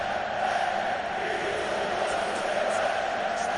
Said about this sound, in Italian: Cori dei tifosi dell'Inter rivolti all'altra squadra di Milano.